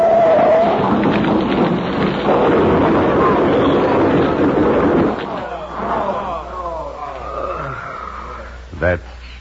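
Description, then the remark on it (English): A heavy freight boxcar, unable to make a curve, tips over and crashes with a loud, roaring rumble for several seconds, then settles into scattered clatter with voices underneath, ending in one sharp thud. “The car's tipping. It's going over now.”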